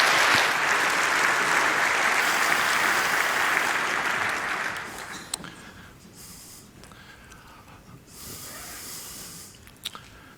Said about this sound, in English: And welcome him with a huge round of applause.